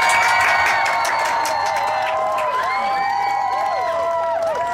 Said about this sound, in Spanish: y todo el público le aplaude. ¿Dónde está? Ahí viene el público, espérame, tardó, pero.